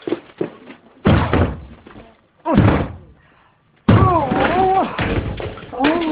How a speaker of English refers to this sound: Right, you've got to break the door down.